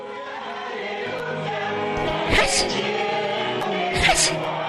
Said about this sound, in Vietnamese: Khi nhạc bắt đầu trỗi, những tiếng "Achi" cũng bắt đầu hòa theo.